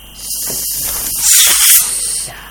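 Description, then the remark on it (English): A voice imitates a hiss for the letter Sin, pushing out one long "sssss" that grows louder near the middle before easing off, with no talking around it. “Letting the air out of the ball, okay?”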